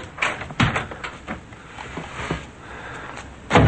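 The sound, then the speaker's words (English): An apartment door opens with a couple of sharp latch clicks and knocks, followed by soft rustling movement and another thud at the end. “Simon opens the door.”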